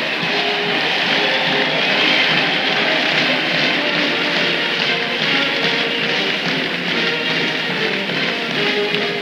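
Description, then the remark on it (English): A large crowd in a convention hall in Detroit cheers as Senator Kennedy's party enters through the back door, a dense, sustained roar with a wash of clapping, holding steady and loud for the full nine seconds with no single voice standing out. “We can just make out his party entering the back door now, and here comes the cheer.”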